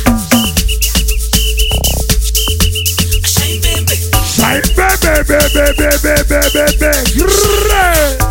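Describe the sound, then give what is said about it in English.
Shrill whistle blasts ring out repeatedly in short rhythmic bursts over loud, thumping dance music with heavy drums, the whistle riding high above the beat. “Bring out your whistle one time.”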